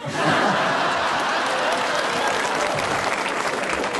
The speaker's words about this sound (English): Very interesting. Half the audience clapped and the other half booed when you said that.